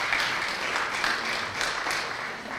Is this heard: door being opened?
no